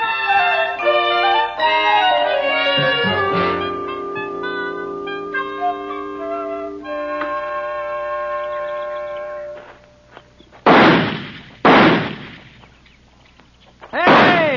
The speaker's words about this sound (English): Come on over, take a look. Better, huh? Oh. You think I'm getting the hang of it now? Sure you are. All six shots in the tree and two of them on the target yet.